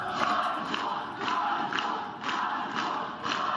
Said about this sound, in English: A crowd of people today gathered outside the jail where Sayarhe Tsihanouskas was being held. He's the husband of presidential candidate Svyatlana Tsihanouskaya. Tsihanouskas celebrated his 42nd birthday behind bars while over 300 people cheered